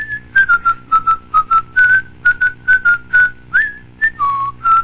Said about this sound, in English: Isn't that the tune to the Ritter Finance jingle you were whistling, honey?